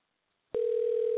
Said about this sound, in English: Hey, the phone's ringing. That's your phone, buddy.